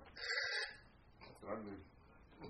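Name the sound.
telephone ringing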